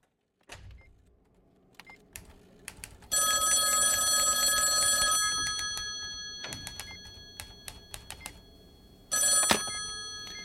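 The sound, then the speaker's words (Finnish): A telephone at the firm Klemmari Oy rings twice as a telemarketer calls, each ring a bright, shrill electronic trill lasting about two seconds, with a pause between them, over a low background rumble and a few faint clicks. “Sepolle soittaa puhelinmyyjä, joka todellakin pistää parastaan.”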